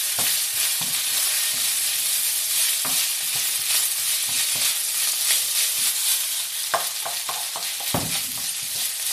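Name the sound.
oil sizzling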